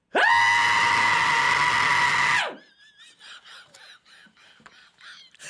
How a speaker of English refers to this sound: So how good is your shriek today? Can you really shriek? I can still scream pretty loud. Are you serious? Yeah. Can you give us an example?